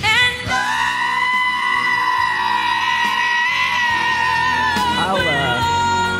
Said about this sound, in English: I was screaming, literally screaming in my sleep. I don't know what that sounds like because I've not recorded it. But I think actually he has sent me a recording of this.